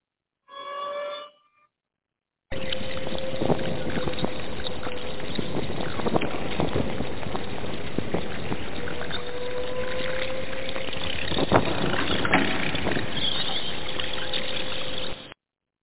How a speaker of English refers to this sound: Hey, people, that's my fruit bat alarm. That means I'm about to go to the phones.